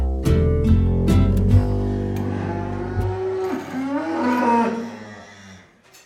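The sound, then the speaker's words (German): Cows and bulls mooing in a barn on a farm by the Oste river, with several long, deep, overlapping moos that rise and fall over a few seconds, a couple of short knocks at the start, and no one speaking. “Kühe und Bullen erhalten Silage, ein durch Milchsäurevergärung konserviertes Grünfutter.”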